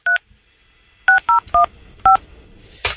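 A telephone number being dialed on a keypad: five short, bright two-tone beeps, one alone and then four in an uneven run after a pause, ending with a brief burst of hiss.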